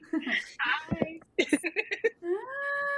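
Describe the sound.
A cat meows, a few short cries followed by one longer, drawn-out meow at the end, with some soft voices and laughter mixed in.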